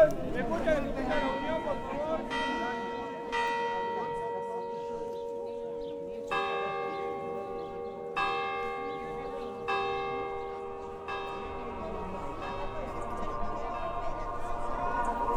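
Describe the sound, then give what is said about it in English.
A town square clock bell strikes noon, its resonant tolls ringing out one after another at a steady, unhurried pace while a crowd murmurs in the background, waiting for a mechanical saint figure that appears at noon. “So the bell sounded, the music began, and the wooden doors opened, and out came the saint.”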